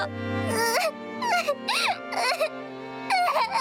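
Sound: child crying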